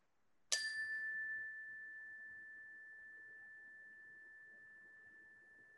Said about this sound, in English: I'll just ring the bell.